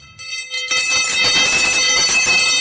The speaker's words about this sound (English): Isn't that a neat bell?